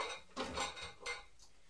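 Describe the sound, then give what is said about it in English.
Glassware being handled, with a few bright clinks and knocks of a big glass bowl set against a hard surface, fairly quiet, in short bursts with no talking. “Yeah, that's a nice big glass bowl, isn't it? Oh, hang on, there's another glass bowl there.”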